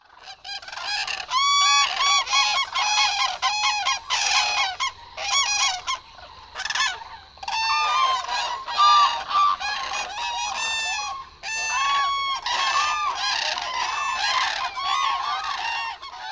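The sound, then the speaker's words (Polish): A large autumn flock of common cranes, gathered before migration, calls continuously, many loud overlapping trumpeting and bugling voices forming a dense, chaotic chorus with brief lulls, no speech. “Jesienią, przed odlotem, żurawie gromadzą się w stada liczące setki, a nieraz nawet tysiące osobników.”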